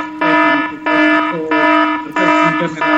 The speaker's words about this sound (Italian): Intanto arriva il nostro temibile allarme, ragazzi, è arrivata la sirena, quindi stiamo per cambiare argomento.